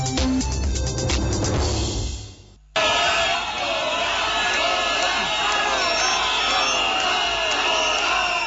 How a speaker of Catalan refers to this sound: Ja ho senten, amb crits de fora i xiulets, més d'un miler de manifestants protesten encara a aquesta hora contra la presència de la família reial espanyola al Palau de Congressos de Barcelona